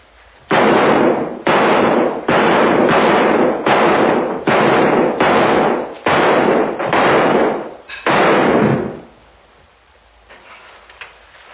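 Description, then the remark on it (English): A rapid string of about ten loud handgun shots, each sharp crack trailing into a short echo, fired steadily over several seconds before stopping and leaving near-silence. “Oh, that must be the hotel people that heard the fireworks.”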